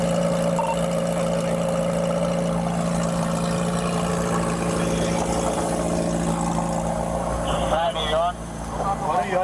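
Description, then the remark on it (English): A car engine idles at a traffic stop with a steady, low rumbling hum that runs the whole time, joined near the end by muffled voices and a brief higher-pitched tone. “So here's the traffic. It starts right at the traffic stop, and we'll watch it, and we'll break it up, and we'll make our own decisions.”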